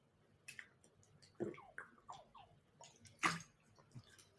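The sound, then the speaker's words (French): Someone sips from a large bottle of Perrier sparkling water: a series of wet gulps and swallowing sounds, with two sharper, louder splashy bursts among softer liquid clicks, and no talking. “On passe à l'actu pro et je bois une gorgée dans ma grande bouteille de Perrier.”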